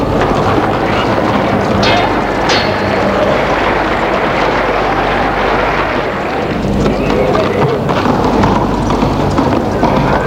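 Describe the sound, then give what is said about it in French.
Horses gallop in a loud, continuous rumble, hooves pounding close together under a dense wash of noise that holds steady throughout. “j'entendais le galop des chevaux.”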